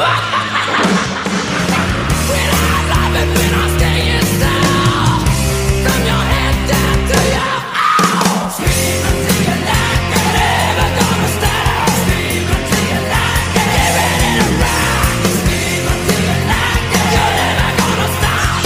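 A loud, dense heavy metal song from the Ghoulies 2 film soundtrack plays throughout, with driving distorted guitars, pounding drums and harsh shouted vocals, briefly dropping out around the middle before crashing back in.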